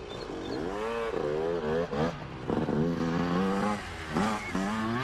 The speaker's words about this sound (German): Was war denn das? Klang wie ein Motorrad. Es kommt näher. Da fährt es lang.